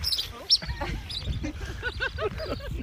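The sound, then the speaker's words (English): Dozens of Aleutian terns circle overhead above a valley near the end of Kodiak's road system, some swooping near their nests, in a dense, overlapping chorus of sharp, rising-and-falling chirps, some loud, others fainter, with no pauses. “Dappled light fills a valley near the end of Kodiak's road system as dozens of Aleutian terns circle above.”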